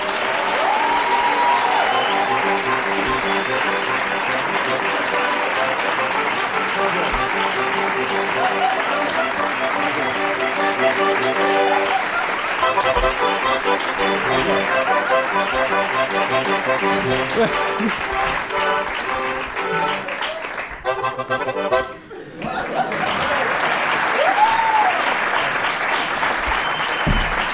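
A large audience claps loudly and steadily for nearly half a minute, with music playing beneath the dense applause; the clapping dips briefly near the end before swelling again. The audience is applauding to welcome Andreu Buenafuente.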